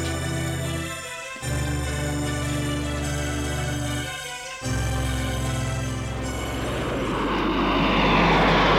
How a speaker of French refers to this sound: Maurice va à Lyon en avion privé. Son avion privé va atterrir à l'aéroport de Saint-Olas.